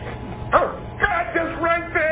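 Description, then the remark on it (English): A dog barks several times in quick succession, short sharp yips and woofs at an uneven pace, moderately loud over a low background murmur. “Where's that dog coming from?”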